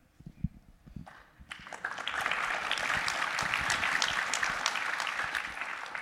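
An audience breaks into applause after a moment of faint tapping, building into a dense, steady wash of many hands clapping that holds to the end, with no voices.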